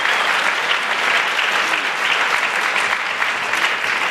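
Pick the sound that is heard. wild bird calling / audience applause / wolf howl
audience applause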